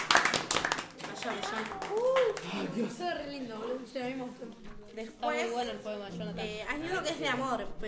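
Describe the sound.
A short burst of audience applause, quick scattered claps for about a second, then excited voices talking and laughing over the fading clapping.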